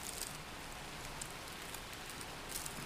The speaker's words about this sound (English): Can you hear the rain fall down?